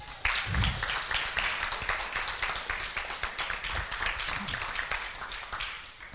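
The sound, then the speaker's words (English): An audience breaks into a round of applause, many hands clapping in a dense, steady patter that holds loud for about six seconds before easing slightly at the end. “And how about we're going to give ourselves a round of applause?”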